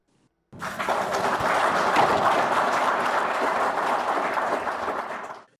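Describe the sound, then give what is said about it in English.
Zimbabwean officials, including Wildlife and Environment Minister Opambu Chinguri, applauding in Harare after receiving anti-poaching equipment from the Sino-Zim Wildlife Foundation Association; a dense, steady patter of many hands clapping that rises quickly, holds for about five seconds, then fades out. No one speaks. “Those are Zimbabwean officials, including Wildlife and Environment Minister Opambu Chinguri, clapping after they received anti-poaching equipment worth $100,000 from a group calling itself the Sino-Zim Wildlife Foundation Association.”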